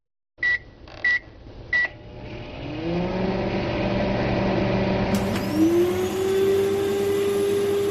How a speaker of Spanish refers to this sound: Bueno, aquí estamos con el microondas y los electrodomésticos a tope.